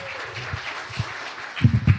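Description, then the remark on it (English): An audience claps together in a dense, steady wash of applause welcoming a Cape Town radio presenter's comedy and radio talk, with a few heavier thumps mixed in and a swell in loudness toward the end. No one speaks. “So can you please put your hands together”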